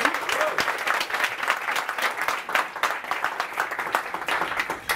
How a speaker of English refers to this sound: Cool, let's clap it up for that question.